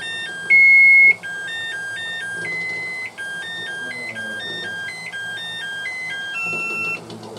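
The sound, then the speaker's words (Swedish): A musical egg timer cooking with eggs signals that they are medium-boiled by playing a simple electronic melody of bright, beeping tones stepping up and down in a steady, tinkly rhythm, with a brief louder burst near the start and no talking. “Vi fick en chans till här av melodiägget.”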